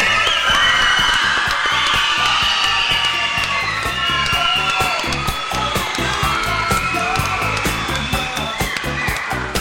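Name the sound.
audience applause and cheering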